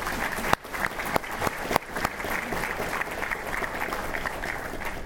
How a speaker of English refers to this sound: So please give them a round of applause.